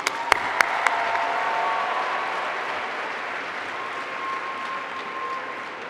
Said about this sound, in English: Can you give a round of applause?